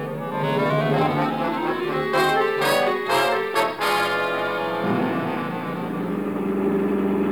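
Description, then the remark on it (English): A car engine hums steadily, its pitch slowly climbing as if accelerating, with a brief burst of rattling noise partway through and no voices, as the car drives through a city to a radio station. “Okay, pull up in front of the building.”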